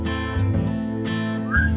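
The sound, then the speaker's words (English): A brief stretch of music with dense, sustained instrumental backing, and a bright whistled note that slides upward near the end. No one speaks. “The whistle's got woo!”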